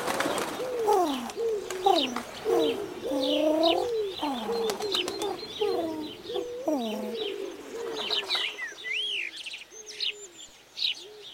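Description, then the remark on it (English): Several doves coo in overlapping, repeated low warbling calls, steady, with higher bird chirps and tweets joining in toward the end. No voices. “Nine doves in gardening gloves.”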